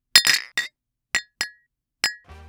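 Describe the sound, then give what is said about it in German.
Several bright glass clinks ring out as glasses are raised in a toast, a quick cluster of two or three, then single chimes spaced apart, each with a short shimmering ring, ending in a faint low rustle. “hebe nun mit euch gemeinsam das Glas, um auf eine erfolgreiche Zukunft des Löwe-Betriebs zu trinken.”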